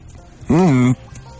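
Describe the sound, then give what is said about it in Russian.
A person hums a single closed-mouth moo, a steady low voiced tone lasting about half a second that rises slightly then holds, loud. “Подожди, ну-ка, просто помычи.”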